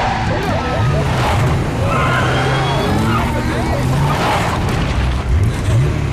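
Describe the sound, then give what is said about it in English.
A car engine roars and revs loudly as the car pulls fast into a parking lot, pitch climbing in repeated surges, with a rough, gritty wash like tires scraping and skidding across pavement throughout. “He pulls into the parking lot at what I would describe as kind of fast.”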